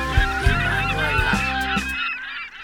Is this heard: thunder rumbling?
no